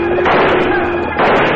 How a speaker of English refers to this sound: While heading for Longhorn Junction, the Rocking W trail herd is ambushed. All right, boys, quiet down! Before Bob Kincaid can rally his men, Slagle and his outlaw crew sweep down with guns blazing, pouring a hail of lead at the surprised cowboys.